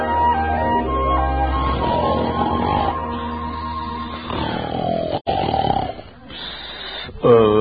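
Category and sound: human body sound, person snoring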